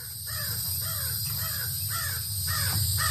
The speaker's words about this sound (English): Talking, having a conversation with my crows. That's me. That's my. You got a crow whistle. And they're talking back. He's answering me back.